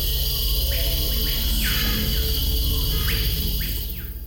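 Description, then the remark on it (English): A dense, loud insect chorus in the Amazon rainforest buzzes and drones without pause, with a handful of rising chirping calls cutting through the steady wall of sound. “The Amazon is alive with more insects than any other place on Earth.”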